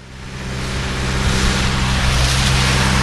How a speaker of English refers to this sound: Near a main intersection, a large diesel-powered pump roars away as cars slosh through the frothy water. Town Chairman Benny Stenner says the pump is slowly draining water from what locals call the lake, a space that sprawls 300 acres